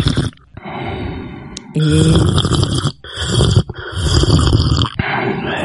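Loud, wet slurping of cazuela soup in several rough bursts separated by brief pauses, with a few short nasal snorts mixed in and no talking.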